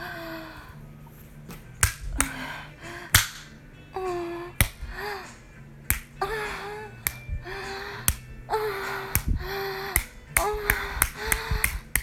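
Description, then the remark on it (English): Sharp slaps of a hand striking bare breasts, repeating irregularly about a dozen times, with breathy vocal sounds and gasps between the hits. “I mean, I kind of want to slap on my tits.”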